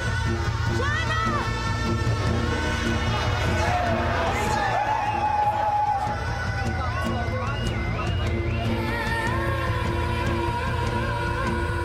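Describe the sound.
Dense crowd bustle fills a crowded high street lined with colourfully lit shop signs, with people and cars; a steady wash of overlapping voices and footsteps with a low rumbling undertone and occasional higher calls cutting through, continuous and fairly loud throughout.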